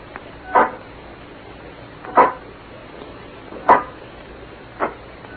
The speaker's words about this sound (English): Oh, I got nerves. I can't stand that thing, the way it looks at you with that iron face and clanking around on the crowd. Listen, here it comes.